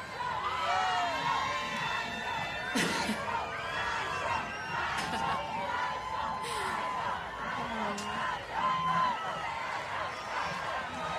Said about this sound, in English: Last song with you, so I just want you to scream this on the top of your lungs, and I'm gonna run around and say hi.